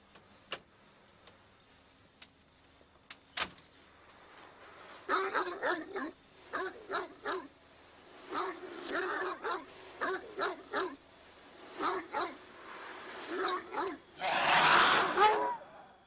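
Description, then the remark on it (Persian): A dog whimpers and yips in a string of short, uneven bursts, ending with one louder, rougher bark-like outburst; a few faint clicks come before it. “این سگه تو رو میدید؟”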